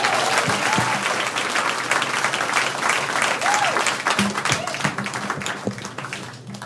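Sustained audience applause, a dense steady wash of many hands clapping at a loud, even level before thinning slightly toward the end, with a few faint voices mixed in.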